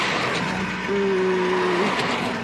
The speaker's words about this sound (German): Ich hoffe, dass diese Autos hier vorbeifahren nicht super nervig sind und dass das Mikro so cool ist, dass es das ausblendet.